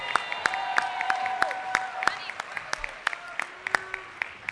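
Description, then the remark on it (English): A thin, scattered round of applause during a session voting on resolutions, given for someone assisting with the reading: sharp individual claps landing irregularly over about four seconds, with murmuring voices and a faint tonal hum continuing underneath. “And I want to give a special round of applause”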